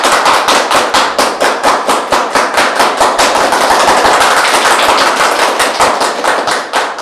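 A crowd applauds steadily for Yurii Rykhlyk, a Ukrainian auto-blogger and volunteer, many hands clapping in a dense, rapid patter that stays loud and even throughout, with no voices standing out.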